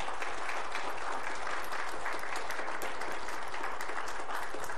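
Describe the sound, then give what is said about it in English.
A crowd applauds steadily for about five seconds, a dense, even wash of many hands clapping with sharp individual claps poking through, and no voices on top. “And I think at this time, a round of applause would be just awesome.”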